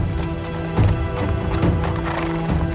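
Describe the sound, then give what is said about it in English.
Steady clip-clop of two white horses' hooves pulling a carriage along a country road, a brisk, even rhythm of moderately loud hoofbeats over a low rolling rumble, with no voices. “Later, a carriage pulled by two white horses rolls along a country road.”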